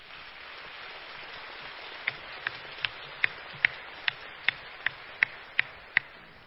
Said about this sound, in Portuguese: Por favor, aplausos para ele.